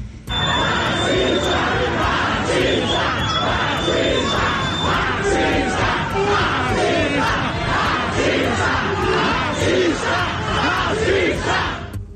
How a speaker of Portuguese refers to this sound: A partir daí, o irmão da vítima começou a filmar a cena e houve uma discussão entre os passageiros presentes. Em seguida, um protesto começou no metrô.